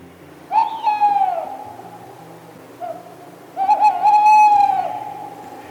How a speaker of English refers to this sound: Tawnies are also frequently heard throughout the winter as they're re-establishing both pair bonds and territories in preparation for their breeding season. So if you're up late at night, you might hear this.